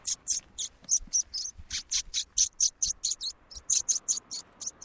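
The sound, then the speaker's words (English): An ornithologist pishing during a bird survey in a park: a rapid, steady series of hissing, squeaky bursts made with the mouth, imitating the scolding alarm calls of small birds, with no other talk. “So we call it pishing, and basically it sort of simulates an alarm call for small birds.”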